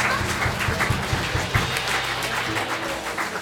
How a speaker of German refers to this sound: Ja, bitte vielleicht noch einen Applaus, ein kleines Stückchen länger für unseren Trompeter, den Mario.